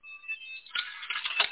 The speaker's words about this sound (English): Wait, what's that beeping noise in the background, brother?